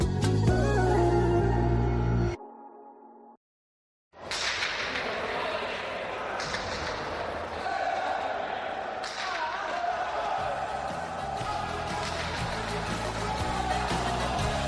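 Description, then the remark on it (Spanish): A pelota ball struck with a wooden pala, cracking against the front wall and side wall of a fronton in repeated sharp, hollow impacts over steady background noise, after a brief loud passage and a moment of silence. “qué bonito suena en los frontones ese golpeo de la pelota con el frontis, con la pared lateral, cuando es con herramienta con la pala, en definitiva que es el sonido típico de los frontones”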